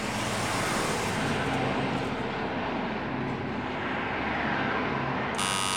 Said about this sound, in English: That's the M3 at Junction 13.